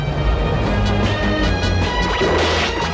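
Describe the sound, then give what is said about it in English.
A spacecraft crashes into a labyrinth and explodes in a fireball, a loud, sustained roar of crunching debris and deep rumbling. The blast fills all three seconds, with no voices present. “The craft explodes in a fireball as it crashes into the labyrinth.”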